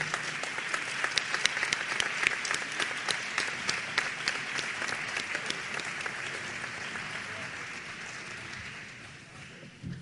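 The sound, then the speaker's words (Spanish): An audience at a municipal swearing-in ceremony applauds the Secretariat of Production, Innovation and Employment steadily for about ten seconds, a dense wash of many hands clapping at once that stays fairly even before easing off slightly near the end. “Un aplauso para la Secretaría de Producción, Innovación y Empleo.”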